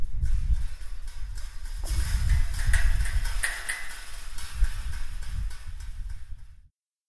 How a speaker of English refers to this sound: That's us rattling the fence, the fence that separates this field from the field where sometimes people come in and tie up their dogs.